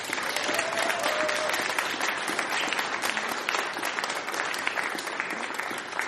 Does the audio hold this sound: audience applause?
yes